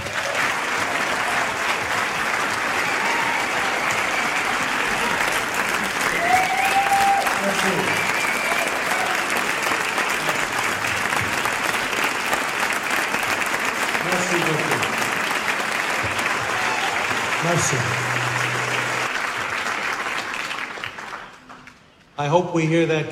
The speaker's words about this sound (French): J'espère que vous applaudirez comme ça à la fin du film.